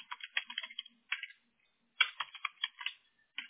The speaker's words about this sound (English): So I would do, in fact, you know what? I'm going to start typing this. So I'm going to do general contractor because that's what we're going under.